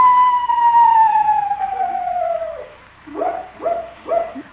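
bird, screech owl call

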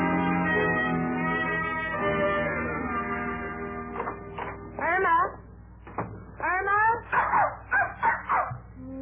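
animal, dog whimpering and barking

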